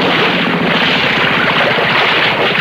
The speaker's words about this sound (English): I'll idle the motor while you jump off.